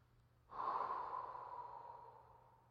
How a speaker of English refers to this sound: Now breathe into your hands. And now take that tingling hands and bringing it to heart.